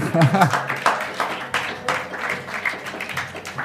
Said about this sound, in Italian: Siete veramente molto, molto, molto attenti, silenziosi, è una cosa bellissima, veramente. Fatevi un applauso.